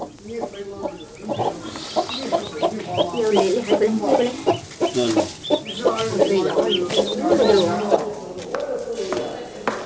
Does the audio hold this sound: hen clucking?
yes